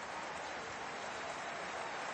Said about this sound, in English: Even at this close distance, her voice is dampened by the sound of the crowd.